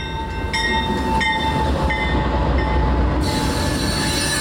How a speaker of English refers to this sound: Amtrak's current Empire Builder train runs from Chicago through Milwaukee to the Twin Cities all the way to the West Coast. Usually that westbound train is right on time when it rolls into the Milwaukee station, as it did at 3:42 p.m. last Saturday.